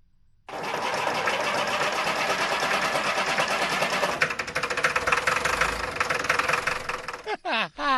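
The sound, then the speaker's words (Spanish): A loud, rough engine drone like an old tractor, chugging and rattling steadily for about seven seconds, then cutting off as a voice briefly starts speaking. “Es como una especie de tractor de los años 40.”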